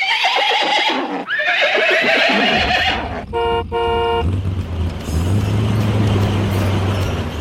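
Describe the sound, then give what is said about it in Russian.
Ded Moroz's magic troika horses whinny loudly twice in quick succession, shrill, followed by a bright vehicle horn blast and the low, steady rumble of the flying truck 'Ded Moroz Express', carrying 20 snowmen and rushing from town to town. “Целую неделю волшебная тройка Деда Мороза и летающий грузовик «Дед Мороз-экспресс» с 20 снеговичками на борту носились из города в город, с улицы на улицу.”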